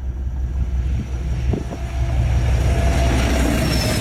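Diesel freight locomotive 56098, hauling approximately 2,000 tons of sand, rumbles past with a deep, steady low drone that swells louder after a couple of seconds, brief clanks and a faint high whine riding over the grinding wagons.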